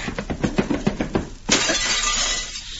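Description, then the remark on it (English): A quick run of rhythmic thumping blows as Cisco hits Jumbo Maverick gives way to a loud, sudden crash as Jumbo smashes through a glass window, followed by a sustained, bright clatter of shattering glass. “Cisco hit that Jumbo Maverick so hard, he goes through the window.”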